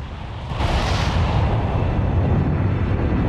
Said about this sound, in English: The peak of Mount Vesuvius is torn apart and a fierce black cloud charges into the sky. Lava, ash and pyroclastics spew forth. Frenetic lightning bolts flash within the dark, billowing column.